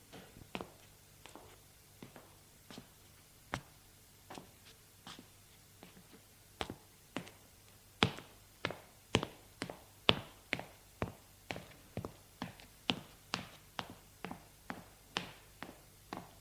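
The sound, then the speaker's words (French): Footsteps climbing stairs: a long run of sharp, hard taps in a steady walking rhythm, becoming louder and a little quicker partway through. No one speaks. “Puis, je monte les escaliers.”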